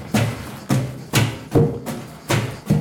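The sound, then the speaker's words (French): A hammer tamps large, many-stemmed plants down into a still as it is being filled: six dull, muffled thuds at an uneven pace, each landing softly with a low body and fading quickly, with no voices. “J'ai un genre de marteau pour taper un peu. Tasser.”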